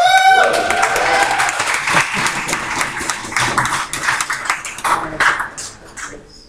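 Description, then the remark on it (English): An audience breaks into applause in appreciation of a visitor's coming, a dense wash of many hands clapping at a steady loud level that tapers slightly toward the end, with a brief tonal ping at the start. “Noticing my son didn't clap.”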